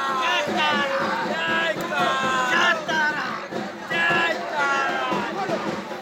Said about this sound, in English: A man dressed in the orange robes of a Hindu tantric mystic and a wild-eyed woman circle an electric funeral pyre while the crowd presses forward, chanting as if in a trance.